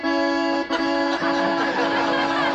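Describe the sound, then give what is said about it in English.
A loud, reedy Cordeen accordion drone imitating a 1956 Chevy station wagon engine, holding a steady buzzing chord with two brief breaths of change, no talking. “56 Chevy station wagon.”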